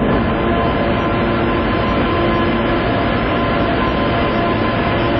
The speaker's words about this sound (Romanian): În ultimii ani, trenul Prietenia, care face legătura între Chișinău și București, circulă mai mult pustiu, plimbându-și personalul dintr-o țară în alta.